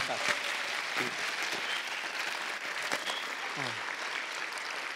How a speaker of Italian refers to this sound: Grazie mille per essere qua con noi. Un applauso al professore.